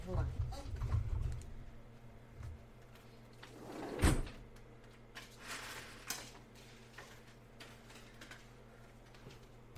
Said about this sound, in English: Let me close the door.